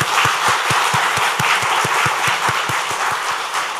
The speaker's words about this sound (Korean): 너무나도 수고 많으시고 또 아름다운 발걸음입니다 라는 마음으로 잘하셨습니다. 우리 격려의 박수, 축하의 박수 하겠습니다.